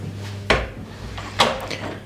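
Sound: bedroom door being closed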